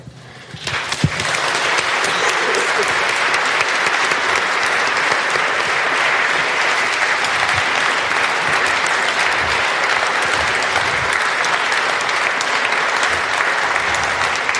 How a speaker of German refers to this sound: Dankeschön, sehr freundlich. Es kann ja fröhlich zu Ende gehen mit viel Applaus und so. Dankeschön.